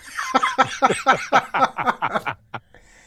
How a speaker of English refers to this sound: Oh, there you go. It's been a while since I coughed on the air.